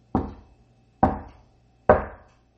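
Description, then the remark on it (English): Three heavy, evenly spaced knocks on a bedroom door at night, each a dull wooden thud with a short ringing tail, about a second apart, with no voices. “That night, as the rich landlord and his wife slept in their chamber, they heard a knock at the door.”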